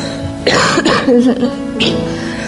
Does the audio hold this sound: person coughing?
yes